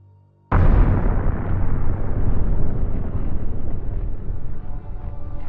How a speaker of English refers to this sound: At 3:46 p.m. on the 12th of March, cameras document a huge explosion that shatters the top of reactor building number one. and seriously injures four workers.